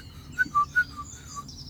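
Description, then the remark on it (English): A great tit calls in a quick, rhythmic, saw-like series of about five short high notes alternating in pitch, fairly soft against a quiet outdoor background under a clear, sunny sky. “That one sounding like a saw, that's a great tit.”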